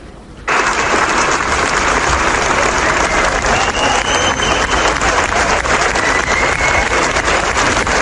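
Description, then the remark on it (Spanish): A large audience bursts into sustained, loud applause, an ovation after the screening of Itziar Bollaín's film Soy Nevenka at the San Sebastián Festival: a dense wash of clapping that starts abruptly and holds steady throughout, with occasional faint whistles or cheers mixed in. “Es iniciar la ovación que recibisteis tras la proyección de la película en el Festival de San Sebastián.”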